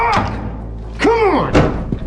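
A heavy metal vault door handle in an office is jiggled and yanked after the combination lock dial is turned, giving three or four loud, uneven thunks and clunks while the vault door stays shut. A voice sounds faintly underneath.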